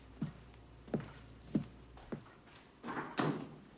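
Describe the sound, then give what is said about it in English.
Four soft, evenly spaced thuds like footsteps as a man walks to a door, followed by a louder rustling clatter as the door is opened and pulled shut when he exits. No one speaks. “He walks towards the door and turns to her. I love the view. He smiles and exits.”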